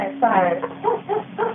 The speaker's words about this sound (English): Her dogs are going crazy. The dogs are just barking like crazy.